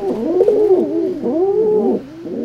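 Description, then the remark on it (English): Several rock pigeons coo continuously, their low, throaty, rolling calls overlapping in soft swelling phrases with no voices present. “When the boat reaches its destination, watch for a flock of rock pigeons on the ferry dock pilings as you disembark.”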